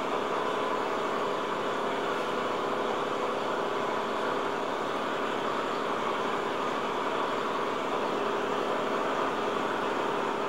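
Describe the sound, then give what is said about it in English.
A fishing boat engine idles steadily out on the ocean, hour after hour. It is a dense, droning mechanical rumble with a faint rhythmic throb, running continuously for a long stretch with no voices. “Hour after hour, just sounds of the ocean and a fishing boat engine.”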